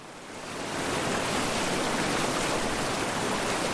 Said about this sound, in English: As we're bumping through the rapids, I'm praying my microphone doesn't get soaked.